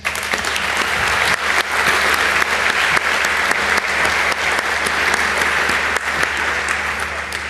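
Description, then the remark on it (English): A crowd at a talk applauds the translators steadily, dense overlapping claps forming a loud, continuous wash of noise that holds its level for several seconds without any talking. “But you can clap for them because they did it anyway.”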